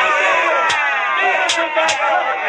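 A dense, loud crowd in the temple of Dagon roars continuously in a frenzy as the priests of Dagon scourge Samson, a frenzied wall of voices punctuated by three sharp, bright bursts cutting through the din.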